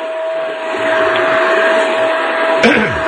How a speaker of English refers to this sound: Turn off the vacuum cleaner, man! I'm not doing a show until he shuts it off.